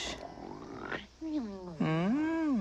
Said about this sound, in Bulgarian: Ай, хъркаш. Извинявай.